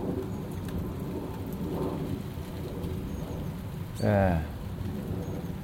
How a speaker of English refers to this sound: I thought the rain had gone off, but it hadn't. Or it hasn't, I should say.